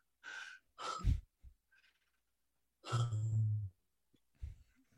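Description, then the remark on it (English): A person imitates heavy, labored breathing: a few sharp gasping inhales and hiccup-like catches, then a long, strained wheezing breath, all fairly loud with short pauses between. “Teddy came f- finally came into the car, and he was breathing like this”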